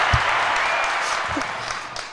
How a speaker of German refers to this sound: Dafür gibt es einmal einen großen Applaus.